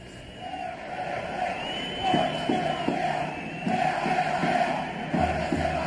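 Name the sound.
football crowd chanting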